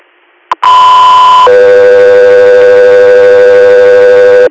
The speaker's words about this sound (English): 3 Air, stand by for tones.